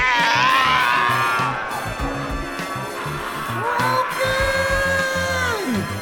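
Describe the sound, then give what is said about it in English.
Someone vocally imitates the dying croak of Croaky, a frog character in a role-playing game: a loud, drawn-out strained groan that wavers through the middle and sags downward in pitch as it fades out at the end. “The final croak”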